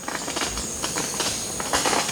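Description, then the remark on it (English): A male Montezuma oropendola, perched beside its nest at the ruins of a Mayan city in dense forest, gives a run of sharp, crackling pops like firecrackers, roughly a dozen bursts in a loose, uneven rhythm over a steady hiss, with no talking. “He sings again, this time with a sound like the pop of firecrackers.”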